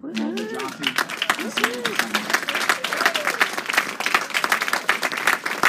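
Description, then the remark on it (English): An audience breaks into applause, dense overlapping clapping that stays steady for several seconds, with a few vocal whoops or voices rising over it near the start. “Can we have a round of applause for Larry Goldberg?”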